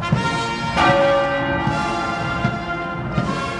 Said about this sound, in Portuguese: Ouvem-se disparos de canhões e os sinos da capela tocam a cada minuto do percurso.